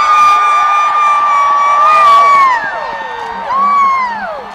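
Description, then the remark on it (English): A large crowd cheers loudly as Barack Obama is introduced, many voices shouting and whooping together in a sustained roar that dips briefly partway through, then surges again; a chant over the loudspeakers is picked up by the crowd. “You hear a chant over the loudspeakers, and that chant will be picked up by the crowd that we're standing in.”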